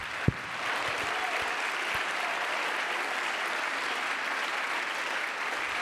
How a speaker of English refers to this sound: Let's clap our hands.